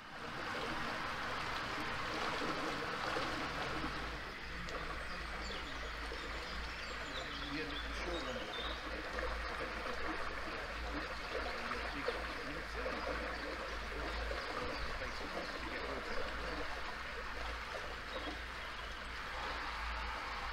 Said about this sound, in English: I must just point out, the noise you're hearing is the prop wash from the other electric boat ahead of us. You know, it really is coming to something where you're getting annoyed at the sound of the electric boat ahead of you for being too loud.